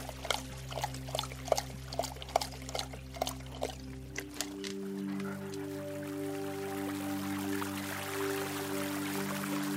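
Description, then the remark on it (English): Icy mountain water in Aspen, Colorado, trickles in quick, uneven drips and splashes for a few seconds, then gives way to a steady, soft rushing flow, with a low humming tone underneath throughout. “Nothing like an icy mountain sip.”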